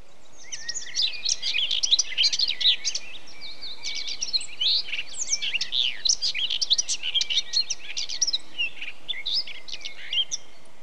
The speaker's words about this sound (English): is brought to you by birds.